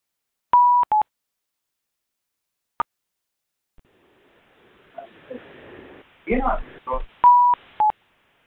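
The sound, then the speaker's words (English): Short electronic telephone keypad beeps sound in quick pairs as the phone is unmuted, then a lone tick, some muffled background noise and clatter, and another pair of keypad tones at the end. “I'm going to unmute the phone now.”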